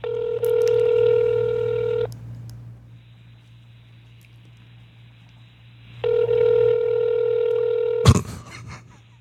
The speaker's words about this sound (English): Big Fatty's going to have some kind of countdown to see if my mom ever picks up the phone.